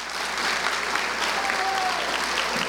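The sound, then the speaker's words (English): A crowd applauds school superintendent Dr. Lonnie Edwards during a First Lady's school-day visit in Mississippi, a steady, dense, even wash of many hands clapping at a constant loudness throughout, with no talking over it. “So we got to give him a round of applause.”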